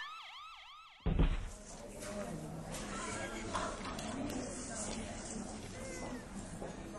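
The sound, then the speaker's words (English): An ambulance siren wails in rising and falling sweeps for about a second, then is abruptly swallowed by loud, dense street commotion with indistinct voices that continues to the end. “Come the ambulance, man.”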